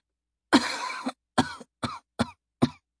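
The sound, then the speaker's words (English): A woman coughs: one long, harsh, drawn-out cough followed by four short, sharp coughs in quick succession, clear with no other sounds. “Saria coughed and took another small sip of what was left in the flask”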